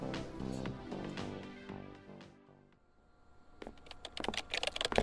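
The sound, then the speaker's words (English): Rapid, uneven clacking of fingers typing notes for Weber on a computer keyboard, fairly loud, starting after a fading stretch of soft tonal sound and continuing in quick bursts to the end. “I have to finish typing these notes for Weber.”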